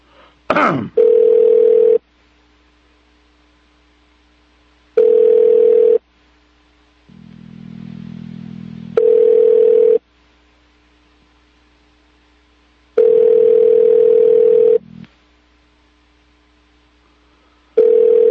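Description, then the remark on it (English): A telephone ringback tone repeats over a line during a call to the U.S. State Department, steady pulses about a second long separated by pauses, with a low buzzing hum in one gap and a click at the start. “you got the phone ringing yet?”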